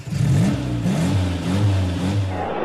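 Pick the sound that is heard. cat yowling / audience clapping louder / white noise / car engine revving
car engine revving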